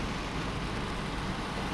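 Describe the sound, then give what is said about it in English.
Steady, unbroken rumble and hiss of a car cruising at highway speed, heard from inside, in May 1989, somewhere between Knoxville and Nashville, Tennessee, on a drive to California, with road and wind noise filling the whole moment at an even, moderate level. “This is sometime in May in 1989. Driving a car to California.”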